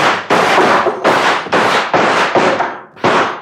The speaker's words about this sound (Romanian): La comanda mea am descărcat o salvă. Atențiune. Foc!